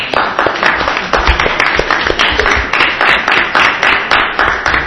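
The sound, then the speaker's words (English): A crowd applauds steadily during the proceedings of a chaired meeting, a dense wash of many hands clapping at a fairly loud, even level with slight rhythmic pulses throughout, and no voices heard. “Applause.”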